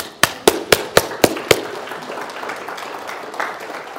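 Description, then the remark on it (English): A Baptist audience applauds God: six sharp, evenly spaced claps ring out in quick rhythm, then fade into a softer, scattered wash of clapping that continues for a few seconds. “Can we applaud God?”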